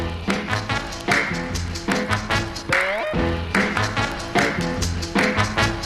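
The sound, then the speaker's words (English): Sharp hand claps fall on the off-beats, demonstrating clapping with the weak beat, in a steady, even rhythm over an upbeat instrumental track with sustained melodic tones. “Or with the weak beat, so.”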